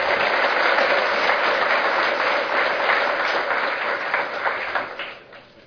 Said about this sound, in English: Okay, that ends our award presentation. I want to just ask you to give one more round of applause to all of our award winnings today for ASA.